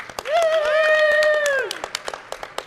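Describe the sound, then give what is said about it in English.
Crowd applause for Fred Couples in an applause-o-meter vote on the best celebrity look-alike, with a loud, sustained "woo" cheer rising over the clapping for about a second, after which the cheer stops and the claps thin into scattered individual hits. “Clap if you think the best celebrity or the best look-alike is Fred Couples. Give me some applause.”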